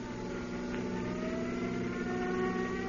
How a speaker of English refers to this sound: regained consciousness in the ambulance that was rushing him to the hospital.